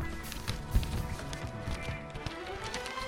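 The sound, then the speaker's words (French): Sheets of paper rustle and crinkle in an irregular burst of dry, scratchy noise lasting a few seconds, with one sharper handling thump early on and no voices. “Pour l'occasion, tu te mérites un bruit de feuilles.”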